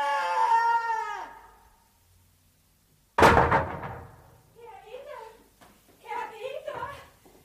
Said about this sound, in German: Jetzt hat er die Schubladen runtergeschmissen.